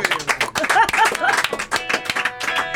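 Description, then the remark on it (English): Several people clap along during a radio show with a band, in a dense, loosely rhythmic patter of sharp, fairly loud claps, with a few higher vocal whoops or tones mixed in over the clapping. “Oh, and I know they're definitely clapping along in their radios and on the intranets.”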